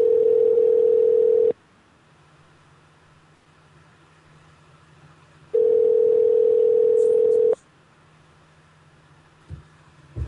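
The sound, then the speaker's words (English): Two long ringback tones over a phone line on an outgoing call to someone in Hawaii, each about two seconds, separated by a quiet gap of faint line hiss; a steady buzzing purr heard from the caller's end. “Okay, the phone is ringing.”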